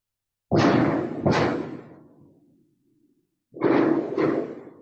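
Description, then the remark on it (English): Fireworks explosions in Oxford boom out in two pairs of heavy blasts, each with a rumbling, echoing tail that fades before the next pair. No one speaks. “Big explosions in Oxford. I think they're fireworks.”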